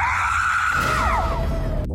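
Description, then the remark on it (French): A loud, sustained scream from the film Les Intrus that holds a high pitch, then wavers and slides downward before cutting off abruptly, over a dense low rumbling background. “Les Intrus, donc à voir cette semaine à Bourg-en-Bresse, où ça va crier, même crier fort, et pas que sur l'écran, dans la salle sans doute aussi.”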